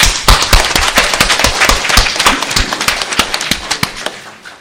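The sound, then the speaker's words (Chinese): A crowd at a Thanksgiving Day church service claps together, giving applause to the Father in heaven, in a sustained burst of applause, dense sharp hand-claps crackling steadily at an even level for several seconds before trailing off slightly at the end. “感谢我们的主，让我们再次把掌声归给天上的父。”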